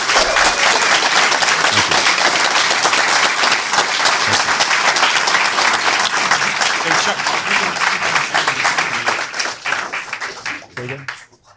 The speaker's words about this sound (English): Yeah, well, thank you. A big round of applause.